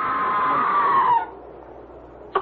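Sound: distant scream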